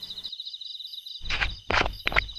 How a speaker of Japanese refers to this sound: 本物の狼じゃないですか。